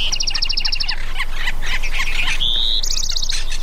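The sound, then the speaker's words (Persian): A lively chorus of birds calling and squawking in nature, with rapid repeated chirping trills, a sustained whistled note and busy overlapping calls throughout, no talking. “این هم گزارشی از دل طبیعت، و اگر فرصتی داشتید حتما به جاهایی برید و از صدای پرنده ها، صدای طبیعیشون رو بشنوید و لذت ببرید.”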